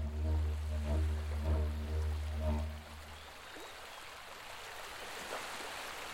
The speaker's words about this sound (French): Dans la vie, j'aime bien le son des vagues à la mer. Arte Radio. C'est parfait pour faire la sieste et pour repartir avec des oreilles fraîches.